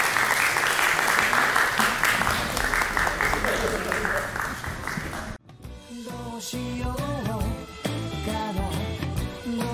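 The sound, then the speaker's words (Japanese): An audience breaks into steady, loud applause, a dense wash of clapping for about five seconds before it cuts off abruptly and upbeat music with voices takes over. “それではもう一度、大きな拍手をお願いいたします。”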